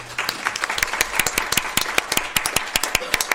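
An audience claps steadily for a speaker after his talk, many hands producing a dense stream of sharp, overlapping claps that keeps an even level for a few seconds.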